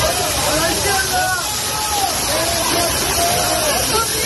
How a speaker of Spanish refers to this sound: Así sonaba el agua y el granizo que cayó ayer por la noche en Valdemoro, donde se dieron las condiciones perfectas para que la tormenta desencadenara en ese reventón.